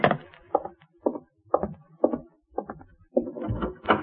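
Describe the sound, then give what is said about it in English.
Steady, evenly spaced knocks on a wooden door, about two per second, moderately loud, ending in a louder, busier flurry of knocking. No voices. “There's someone at the door, Dave.”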